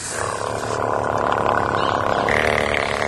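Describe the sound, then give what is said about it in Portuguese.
Namal, a young orphan elephant at a Sri Lanka centre for injured and orphaned elephants, gives a strange, drawn-out call, loud, holding a steady buzzing, rumbling tone for about three seconds with no voices over it. “O mais novo morador é Namal, este pequeno elefante órfão. Ele emite um som estranho.”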